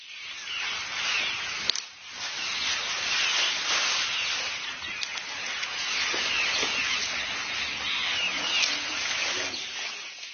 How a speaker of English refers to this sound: The closest we can get to that is listening to a herd of elephants grazing in the Sabi River Valley.